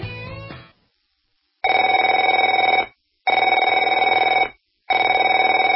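A telephone rings in three long, even bursts separated by short pauses, a bright buzzing bell tone with steady pitch. A brief tail of another sound fades out just before the first ring.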